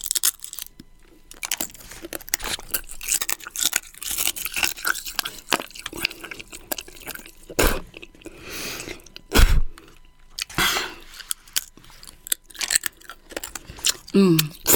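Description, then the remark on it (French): Loud crunching and chewing, with irregular bursts of hard bites and grinding that keep going throughout, broken by a few sharper, louder snaps. “Moi qui bouffe des couteaux au petit-déj.”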